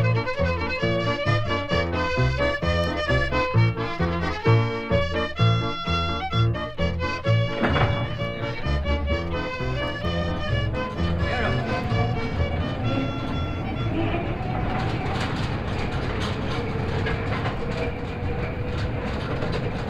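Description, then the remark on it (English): A mine train rumbles down the main tunnel of the Britannia Copper Mine at Britannia Beach, British Columbia, Canada, at about the 3,800 level. Its wheels clatter and clank in a steady rhythm with metallic squeals, then settle into a dense, roaring rush of noise toward the end. “We're going down the main tunnel of the Britannia Copper Mine”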